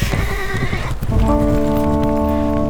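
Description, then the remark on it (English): Horses neigh loudly, a long shrill whinny rising over a busy jumble of hooves and movement, with clip-clopping as riders set off galloping in pursuit. “The Normans ran for their horses to give pursuit. As the two men galloped off into the safety of the trees”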